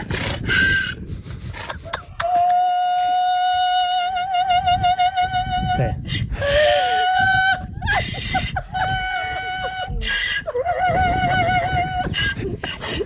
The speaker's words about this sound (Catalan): el Liceu també podria estar-se plantejant fer alguna coseta amb aquest burro, L'escoltem! Sí, home. Això és una porta de pàrquing. És un burro.